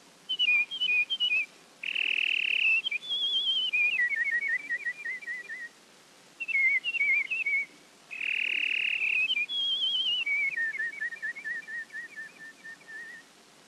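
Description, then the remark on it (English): A song sparrow sings two full songs, each opening with a few bright notes, then a buzzy burst and a descending run of quick trilled notes. Clear, with no other sounds. “The lively song of the song sparrow.”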